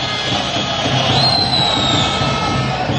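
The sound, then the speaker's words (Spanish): A stadium crowd at a Recre football match against Ceuta B whistles in protest over a steady, dense roar, with one shrill, sustained whistle cutting through for about a second midway before fading back into the din. “Y los pitos.”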